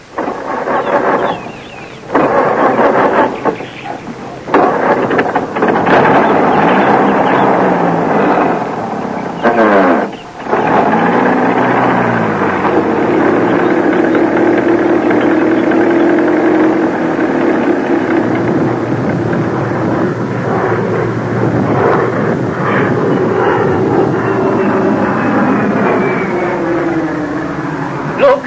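An old car engine rumbles loudly and steadily as the vehicle drives off, with a brief sputter early on, then a sustained roar whose pitch shifts as it revs and picks up speed.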